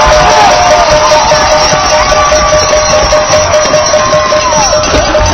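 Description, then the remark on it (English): A partisan Marblehead crowd at a football game cheers Lopez's touchdown, which puts Marblehead ahead 6-0. The loud, sustained roar fills the whole stretch, dense and steady, with scattered shouts and whistles rising above the wash of noise. “Well, you can tell we're on the Marblehead side. Partisan crowd, some veterans here.”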